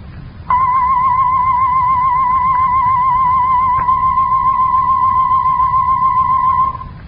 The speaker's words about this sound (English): Now we shall play tones whose pitch is modulated or changed, and unless you are listening in a room of pronounced liveness, you should be able to tell clearly which of the two tones is the livelier.